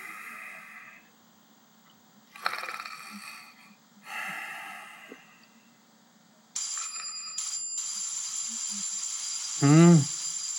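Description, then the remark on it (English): A doorbell rings at night, someone at the door, in a long, shrill, steady peal, starting after a few soft breathy snores and carrying on to the end, with a loud snort breaking in near the close. “…, there's somebody at the door.”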